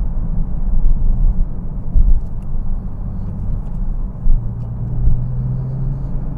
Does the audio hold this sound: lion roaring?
no